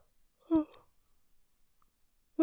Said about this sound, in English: I gotta stop yawning though. It's not bedtime yet.